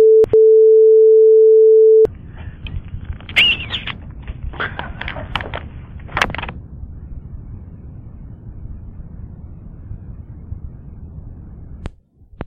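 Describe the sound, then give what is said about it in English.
A click, then a loud, steady telephone dial tone on an answering machine tape after a caller hung up without leaving a message, humming for about two seconds before cutting off into crackly, hissing line noise with scattered clicks and thumps, ending with another sharp click. “You hear the beep and a dial tone.”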